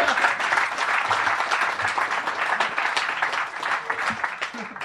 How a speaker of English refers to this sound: So obviously, a round of applause for my two wonderful co-hosts today,